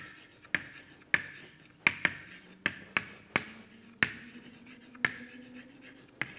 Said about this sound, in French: Bon, je vais écrire juste ces deux papiers, mais sans doute, même avant la publication, il y a des gens qui savaient ça même avant.